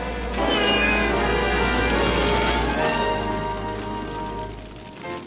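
cat meowing

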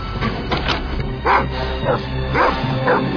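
guard dogs barking

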